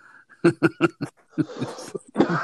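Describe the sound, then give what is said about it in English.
A quick run of four sharp, rhythmic coughs, followed by rougher, breathy coughing bursts that blur into laughter-like sputters, fairly loud with no speech over them. “Look, you're coughing.”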